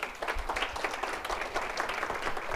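A crowd of people claps steadily to welcome a speaker, a dense, sustained wash of many hands applauding at once, even in loudness throughout, with no talking over it.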